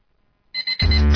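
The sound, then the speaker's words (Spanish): After a short silence, an alarm clock set for 5 in the morning starts ringing with a couple of quick electronic beeps, then swells into a loud, continuous, shrill ring that runs to the end. “Suena la alarma, 5 de la mañana.”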